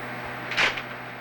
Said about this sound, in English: If you wanted to let me show you. If I put the broom over here.